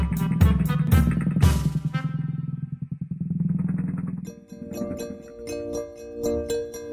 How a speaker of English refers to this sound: Then Little Red gave Grammy and Wolfie a hug goodbye, and she rode her scooter all the way home.